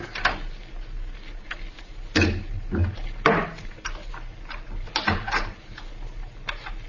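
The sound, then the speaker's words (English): A series of mechanical clicks and clunks as someone unlocks a door with a key and handles the door latch, with scraping thuds spaced irregularly over several seconds. “Somebody's unlocking the door through which we came.”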